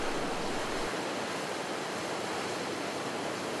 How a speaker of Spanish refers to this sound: Las olas del Océano Pacífico rompen suavemente en la orilla, creando un sonido relajante.